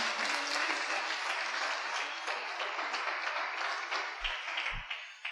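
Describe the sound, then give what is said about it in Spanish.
An audience applauds the Lord for his faithfulness, a dense wash of many hands clapping at an even level throughout, with a couple of brief low thumps near the end. “Dale un aplauso al Señor por su fidelidad.”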